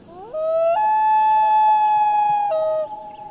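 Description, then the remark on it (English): A common loon gives a long, wailing call: a note that rises, jumps higher and holds steady, then drops back down before fading. The tone is clear, mournful and loud, with no voices present. “The call of the common loon is a symbol of the far north.”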